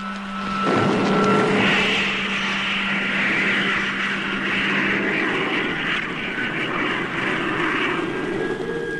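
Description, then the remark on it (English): A loud, steady roar of spaceship rocket motors firing after a countdown, a dense rushing blast with a low humming drone underneath that swells early and then holds nearly constant, with no voices. “Stand by for firing. In 5 seconds. 4, 3, 2, 1. Contact!”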